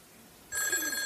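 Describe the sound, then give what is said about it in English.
A princess telephone starts ringing abruptly after a brief quiet moment, a bright, sustained metallic ring that is loud, with no one talking over it. “That princess phone, that's right.”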